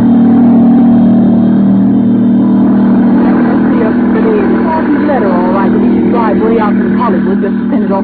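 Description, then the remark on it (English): The 5:30 plane to New York takes off from the airport in Burbank, its engine roaring steadily, a loud, constant low droning hum throughout, with voices talking over it during the second half. “As the 5:30 plane takes off for New York, in the crowd are two girls.”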